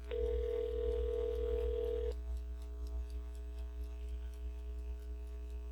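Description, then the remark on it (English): A steady telephone dial tone hums for about two seconds, then cuts off, leaving a faint, regular clicking as a number with a Kentucky area code is dialed. No one speaks. “See if I can get this Kentucky area code correct.”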